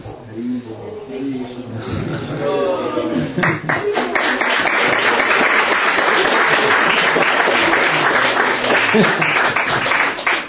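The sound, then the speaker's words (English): A crowd breaks into sustained applause, dense clapping swelling after a brief stretch of voices and then holding loud and steady to the end. “He's also applauding.”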